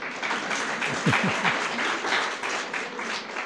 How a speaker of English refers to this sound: I'll take the applause to be for my mum.